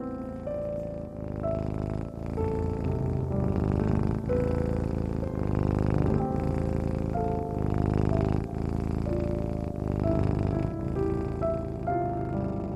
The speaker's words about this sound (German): die kleine Zauberkatze, kommt jetzt zu dir und rollt sich auf deinem Bauch zusammen. Sie schnurrt.